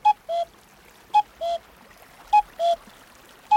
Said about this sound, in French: C'est un sale oiseau aussi. Ah, le coucou a mauvaise réputation.